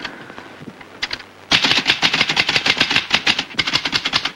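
Rapid mechanical typewriter keystrokes clatter in a steady, uneven rhythm, starting with a few sparse taps before breaking into continuous fast typing with sharp, bright clicks.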